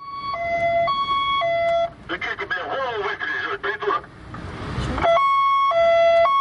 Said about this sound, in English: In this way, and using his siren on, the driver just trying to clean up his way, avoiding standing in a traffic jam.